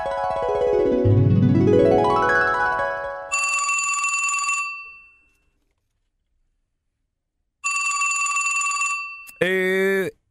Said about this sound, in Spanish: Sonó el teléfono de la recepción.